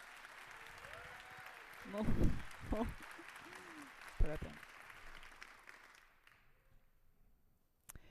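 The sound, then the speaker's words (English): An audience claps steadily to welcome speakers at the start of a show, a dense wash of applause with a few voices calling out over it, then the clapping fades away into near silence. “Please give them a welcome applause.”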